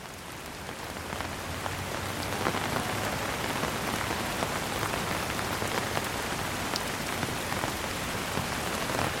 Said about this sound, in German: Der Regen wird stärker